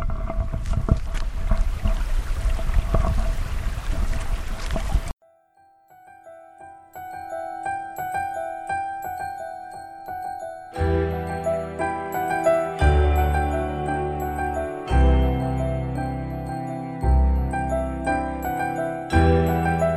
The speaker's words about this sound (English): But I'll just pass, as I promised, I'll pass it over for you to listen to the creek.